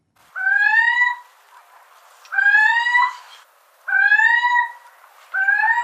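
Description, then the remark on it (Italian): A little owl calls four times at a steady pace, each call a loud, mewing, slightly rising note with a nasal, harmonic-rich tone, separated by short silences; the last call is cut off. “questo è il richiamo della civetta che si può ascoltare nel sito della società ornitologica Ficedula.”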